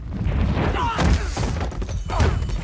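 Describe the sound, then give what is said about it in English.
Heavy thuds and crunching impacts of a man being hit from behind and slammed against a wall, two or three loud hits amid rough scuffling, with a strained voice briefly audible. “A powerful grip slams him against the wall, and the world flashes red as he's hit again.”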